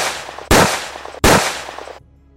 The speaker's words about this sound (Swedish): En man med pistol springer mot Sofian Ahmed Barak. Han skjuter skott efter skott.